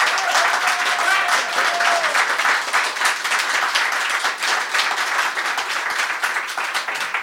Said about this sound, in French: Alors, on fait pour … en premier, ok ? Ok, alors applaudimètre pour … en premier. C'est parti.